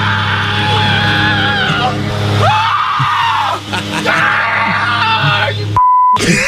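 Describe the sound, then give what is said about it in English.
A man screams and groans in loud, drawn-out, anguished wails that rise and fall in pitch, continuous, ending with a brief electronic bleep. “that scream is more like pain-filled than people getting burned alive on Game of Thrones”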